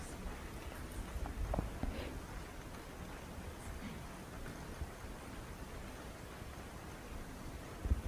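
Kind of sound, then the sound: nature, rain falling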